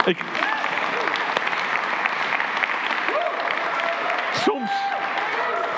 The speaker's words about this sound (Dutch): Ik heb nog nooit applaus gehad. Mensen die applaus geven. Fantastisch.